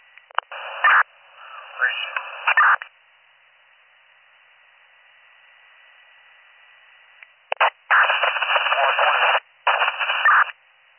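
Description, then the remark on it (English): Loud bursts of harsh radio static crackle in and out, separated by a long stretch of faint hiss, like a scanner catching garbled, unreadable transmissions. “Last 21 unit, I got off static. Still static, just picking up D21 on the identifier.”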